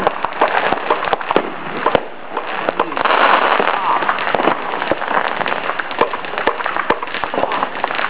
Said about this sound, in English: Those are not your fireworks.